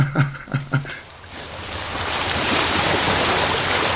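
Sea waves wash against the shoreline at Savonga on a sunny July day in a steady, broad rushing roar that swells after a few brief low knocks at the start, with no voices.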